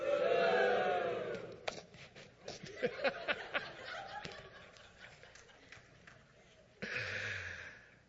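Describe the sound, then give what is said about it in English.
An audience boos and jeers Haman loudly for about a second and a half, then sharp scattered clacks and voices continue more quietly before a second burst of booing near the end. “If anybody wants to feel it, you can come up here and just stand with me for a minute and feel how wonderful it is when people are booing.”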